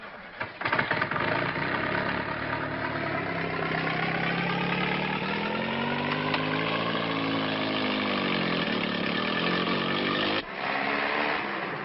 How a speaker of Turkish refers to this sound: Kamyonet ilerledi ve bir kahvenin önünde durdu.